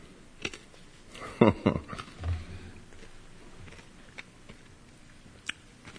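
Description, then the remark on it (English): Wet, crunchy chewing of a cough drop, picked up by a microphone, bursts around the middle, with a few sharp crackles as it is crushed between the teeth, then quieter smacking and faint clicks. No one speaks. “That's me chewing my cough drop.”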